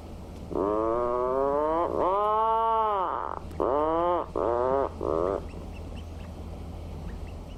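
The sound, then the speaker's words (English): An adult puffin gives a deep, groaning call in several drawn-out bursts, like a revving engine, sounding muffled as if from a burrow, with a chick's faint calls in the background. “That's an adult puffin. And you often hear that sound from within the burrows. And in faint in the background, you could also hear a chick vocalizing.”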